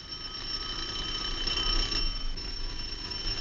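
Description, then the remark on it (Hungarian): A faulty electric doorbell rings without stopping even though no one is pressing the button, a steady high-pitched metallic buzz holding at an even loudness for several seconds. No one speaks. “Hát most akkor is szól, amikor nem is nyomják.”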